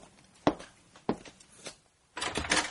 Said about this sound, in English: Stay there, I'm opening the door.